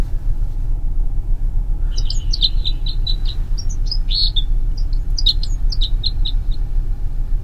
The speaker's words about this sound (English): What's that one again? That was the red crossbill.